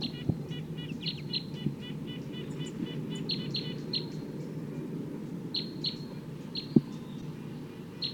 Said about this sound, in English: That's wild bird up there.